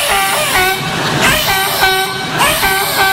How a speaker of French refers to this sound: T'as ceux, par exemple, qui se collent le plus à la bordure en ciment, tu vois. T'entends les pneus qui hurlent.